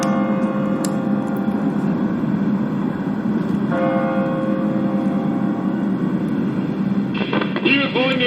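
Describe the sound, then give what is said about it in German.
A large church bell strikes the hour, heavy resonant strokes announcing the number of hours over a dense, sustained wash of ringing bells, loud, with no pause in the clangour. “Und nun die große Glocke, die Anzahl der Stunden verkündet.”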